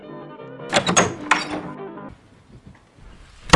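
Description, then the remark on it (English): A door being opened to let a visitor in: a quick cluster of sharp latch clicks and clunks, then a soft low rumble as it swings, ending with another faint knock. “Go ahead and open the door, and we'll let him in, and have him step right up to the microphone.”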